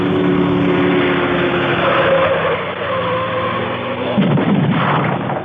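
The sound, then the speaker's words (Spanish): A car engine roars steadily and loud, then near the end a sudden crunching impact bursts through as the car rams the wooden roadside fence, sending the boards flying, and keeps speeding on along a road that winds in curves. “El auto de Calimán ha embestido contra la valla del camino, haciendo saltar las maderas, y continúa su veloz carrera”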